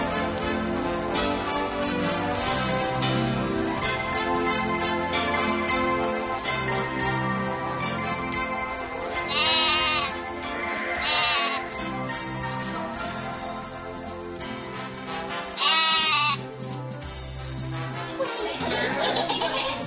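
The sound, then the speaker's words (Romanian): Several short, quavering bleats of young goats (kids) rise loudly above a busy musical backdrop, arriving in a few separate bursts spread across the scene. “Gata, gata cu behaiala.”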